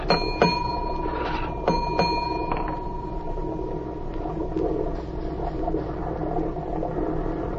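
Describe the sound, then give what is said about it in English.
Two pairs of sharp metallic bell strikes ring out with long, bright overtones from a ship's engine room signal bell, giving the order to the engine room to heave to, over a steady low engine rumble and hum. “I know engine room signals.”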